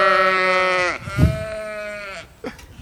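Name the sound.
sheep bleating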